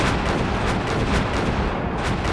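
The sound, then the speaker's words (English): A distant explosions sound effect: a continuous barrage of explosions and booming artillery-like blasts, rumbling thickly in the low end with repeated sharp bursts rising through it, with no voices. “And when you hear all the explosions, you slow the craft down.”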